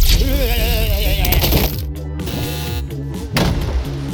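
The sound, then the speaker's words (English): Fireworks crackle and pop in a dense, continuous burst, with wavering whistling tones over the opening second and a rumbling low boom underneath, staying loud throughout with no voices. “I love fireworks.”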